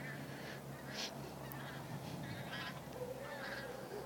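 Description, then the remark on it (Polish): A small group of geese flying overhead honk repeatedly in scattered, overlapping calls, over a steady low outdoor rumble. “Znowu gęsi latają. Jakaś taka grupka zagubiona leci.”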